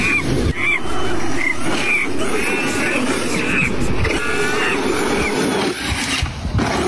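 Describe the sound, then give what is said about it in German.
An electric quad bike with a plush toy monkey on it drives by steadily, its motor giving off a thin, wavering whine over a continuous rough rumble of tyres and body noise that holds fairly loud for the whole stretch. “was ist das, ein Elektro-Moped? Nee, ist kein Moped, ist ein Quad.”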